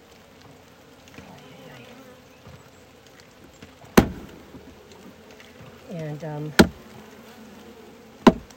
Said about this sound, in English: when it's raining, of course, the bees can't forage. So they start eating the honey they've made. Smart bees. Save it up for a rainy day, eh?